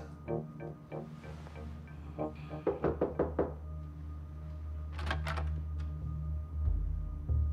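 Several rounds of knocking on a door, quick bursts of sharp raps with short pauses between groups, clear, with no voices.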